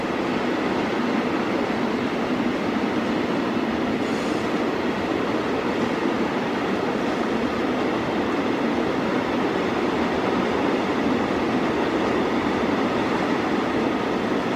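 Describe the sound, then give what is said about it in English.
A long freight train rolls past, its steady, loud rumble and rattling cars filling the air without a break for the whole stretch. “Where else can you hear the sound of freight trains going by on the radio?”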